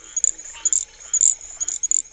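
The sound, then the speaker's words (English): A very high-pitched, cricket-like frog call, from a frog of the southeast heard after rainstorms in June, repeats in short chirping bursts, about seven or eight in quick irregular succession, clear with a faint background hum. “Yeah, it's a little cricket-like, very extremely high-pitched, and you can hear them after rainstorms in the southeast in June as you're driving along in the car, but I think most people think they are crickets singing.”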